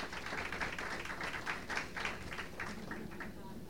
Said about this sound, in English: Yes, give her an applause. She deserves it.